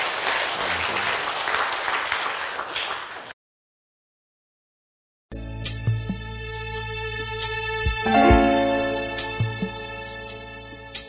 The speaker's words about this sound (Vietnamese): Cảm ơn anh, xin dâng lên Chúa mẹ một tràng pháo tay.